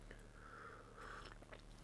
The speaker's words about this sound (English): Excuse me slurping on the coffee.